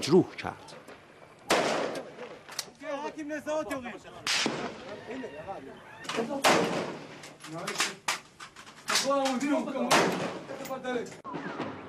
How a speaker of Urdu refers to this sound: اسرائیلی فوج نے مظاہروں کو کنٹرول کرنے کے لیے ان پر فائرنگ کر دی اور مظاہرین کو زخمی کر دیا.